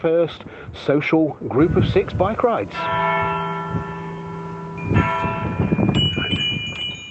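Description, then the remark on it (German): On a village square in England, where friends with bicycles wait to set off on a bike tour, someone talks briefly, then a large church bell is struck and hums with a long, resonant ring, sounding a second time a couple of seconds later while voices murmur faintly underneath. “Wir warten jetzt darauf, dass die Glocke läutet und dann geht es los zur ersten 6-Leute-Fahrradtour.”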